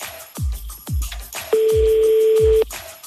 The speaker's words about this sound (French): Deuxième sonnerie.